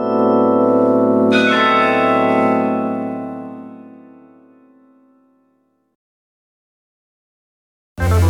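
A large church bell of Mechelen tolls, a second strike blooming over the first, its deep resonant hum fading slowly into silence before a brief abrupt sound cuts in at the end.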